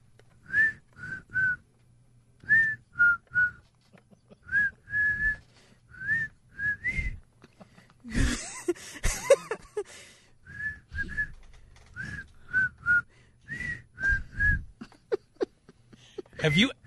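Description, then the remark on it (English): A person whistles a song's tune in short, repeated phrases, with a burst of breathy noise or laughter midway before the whistled tune resumes. “They'd like you to whistle the song's tune.”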